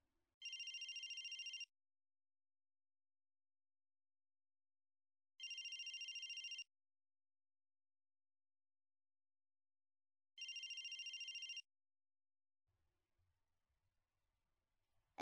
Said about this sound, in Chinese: 等一下，小新，我接个电话。